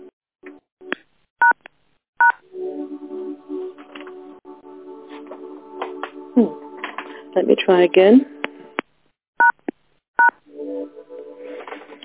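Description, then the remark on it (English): A series of short, sharp telephone keypad beeps sounds in uneven bursts, some pressed quickly in pairs, as the phone lines are muted for morning affirmations and Buddhist meditations, with a person talking and background noise between the presses. “Take a deep breath in as I mute the phones for our morning's affirmations and Buddhist meditations.”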